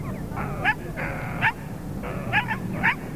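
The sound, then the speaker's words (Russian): A thin, grey dog whimpers and yips in short, high-pitched bursts, about four whines with quick sharp peaks, as it is fed a crust of bread, over a low background rumble. “Хороший, хороший пес.”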